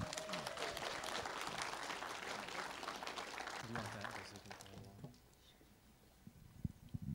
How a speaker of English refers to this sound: Awesome. Give him a hand clap. Yeah.